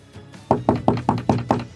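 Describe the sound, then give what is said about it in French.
Six firm knocks on a wooden door in a quick, even rhythm, fairly loud, with a short quiet pause before they begin. “respira un grand coup et toqua à la porte.”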